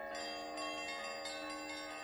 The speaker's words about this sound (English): Hear the tolling of the bells, iron bells. What a world of solemn thought their monody compels. In the silence of the night, how we shiver with affright at the melancholy menace of their tone.